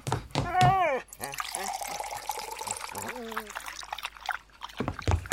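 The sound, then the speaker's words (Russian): Water pours steadily into a bowl for Altai outside a monastery, a splashy stream with a faint rising tone as it fills, while a voice makes brief sounds at the start and over the pour. “Фух, надо Алтаю воды налить.”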